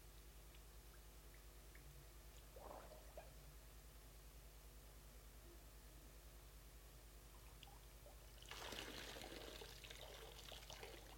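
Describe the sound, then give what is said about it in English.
Quiet water sounds over a steady low hum: a brief splash early on, then a louder spell of sloshing and dripping as a wet sponge is lifted from the water near the end. “Or if I illustrate with this sponge is wet. When I take it out of the water, it is definitely wet”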